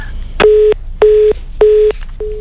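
Telephone DTMF dialing tones while redialing a call: three loud, evenly spaced beeps of the same pitch with brief gaps between them, then the start of a fourth. Nobody speaks, and faint line hiss sits underneath.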